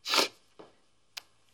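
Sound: sneeze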